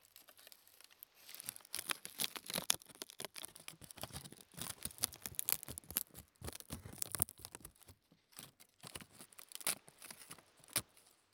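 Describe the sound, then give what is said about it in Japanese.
Dry, crisp sheets of seasoned nori seaweed (ajinori) tear and crunch in a dense run of crackly, papery snaps, bright and brittle, going on for several seconds with short pauses and no talking. “のり、のり食べますか皆さん。”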